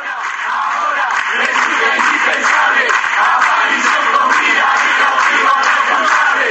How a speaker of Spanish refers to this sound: Este grito, el de la aparición con vida y el castigo a los culpables, ganó las calles del país a un año de la desaparición de Jorge Julio López.